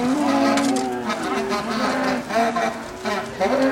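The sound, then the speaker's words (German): A herd of black-and-white dairy cows, a breed bred for longevity, moos in long, overlapping calls that rise and fall, fairly loud, over a steady noisy background with no pauses. “Unzählige Kühe und ihre Verbündeten. Da, die auf Langlebigkeit gezüchteten Schwarzbunten.”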